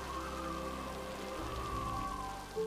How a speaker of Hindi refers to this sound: पर तभी रात पड़ने के साथ साथ उत्तरी हवाएं फिर चलने लगी और वर्षा की झड़ियां खिड़की से टकराकर छज्जे पर बह आईं।